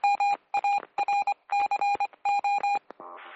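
A rapid run of dual-pitched electronic beeps on a phone line, like touch-tone phone keys, pulsing in quick uneven bursts before ending in a short burst of buzzy line noise.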